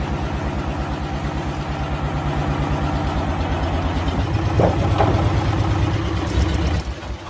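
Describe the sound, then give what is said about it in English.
A vehicle engine idles loudly, a steady low rumbling throb with regular pulses, briefly revving slightly near the end before settling back. “Can you turn the engine off, mate?”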